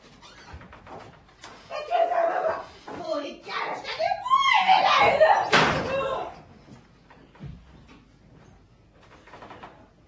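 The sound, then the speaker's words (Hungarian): A merchant knocks loudly on Agafja's door amid a busy stretch of overlapping voices, with a sharp burst near the middle before the scene quiets down. “Podkoljoszin és Kocskárjov elhűlve nézi, amint a kereskedő széles kelmét teker le a derekáról és bekopog Agafja ajtaján.”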